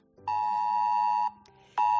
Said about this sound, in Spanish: Han pasado ya 2 semanas del paso de la última dana por la provincia de Málaga, un temporal por el que se activó, seguro lo recuerdas, la alerta roja, por el que recibimos un aviso de Protección Civil en el móvil alertando de la peligrosidad.